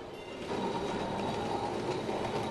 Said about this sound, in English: Luckily, she could do a little healing in Kolkata. She rode on trundling trams.